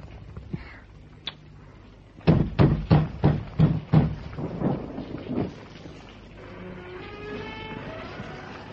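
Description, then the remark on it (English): Heavy rain pours down in a steady hiss, broken midway by a quick series of loud, rhythmic thumps before settling back into the downpour. “The rain. This is too much rain.”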